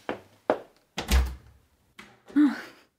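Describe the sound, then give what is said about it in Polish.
A bathroom door next to a wardrobe opens: a couple of sharp handle clicks, a heavy low thunk, then a short creak and a final knock as it swings and settles, with no talking. “Chodź, zobaczysz łazienkę. To te drzwi obok szafy.”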